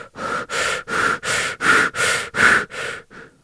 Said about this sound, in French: La respiration rapide vous permettra de rompre avec la barrière qui retient vos émotions négatives.